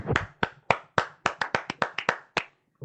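About a dozen sharp, crisp hand claps in a brisk, fairly steady rhythm, like a short round of applause from one person, marking a streamer's promotion to featured streamer, with no talking, ending abruptly.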